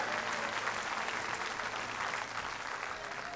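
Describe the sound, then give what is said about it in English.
An audience claps together in sustained, dense applause, many hands blending into a steady roar that holds evenly throughout with no pauses and no clear voices on top. “Give the Lord a clap offering and praise him.”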